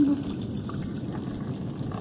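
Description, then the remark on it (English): Warm blood is poured steadily into a metal battle helmet, a continuous splashing gurgle that lasts about two seconds at a moderate level. “Count Battery, Lord of Battery and Adoshti, Knight of the Holy Roman Empire, Baron of Transylvania, in the name of the Prince of the Air and of the Little Spirit, come to this your battle helmet as we pour the warm blood of your servant.”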